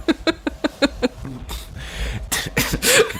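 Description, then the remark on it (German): Several harsh, breathy coughs burst out, coming after a quick run of short rhythmic vocal sounds, with the last coughs loudest. “Da muss ich schon husten, da kommt schon die Idee.”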